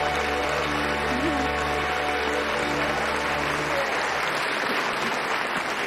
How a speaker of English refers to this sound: Some raise their glasses while others applaud.